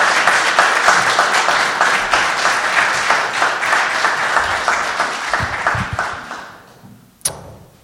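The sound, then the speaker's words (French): An audience applauds to the glory of God after a Bible reading, steadily for several seconds, the clapping fairly loud and dense, then tapering off with a few scattered claps and a brief knock near the end. “Est-ce qu'on peut les applaudir à la gloire de Dieu?”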